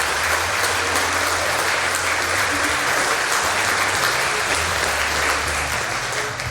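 Sustained applause from an audience, a dense, steady wash of clapping that holds at an even loudness for several seconds, with no one speaking over it.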